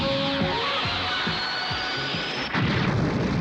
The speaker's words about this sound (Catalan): Des d'un altre extrem de l'aigua, el canó apunta al robot. Una mà es prepara per prémer un gallet. La Bulma ho fa i una bala lluminosa surt disparada.